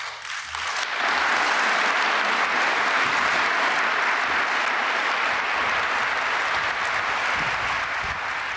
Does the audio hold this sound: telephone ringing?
no